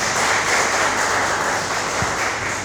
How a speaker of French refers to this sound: Applaudissons un peu pour lui.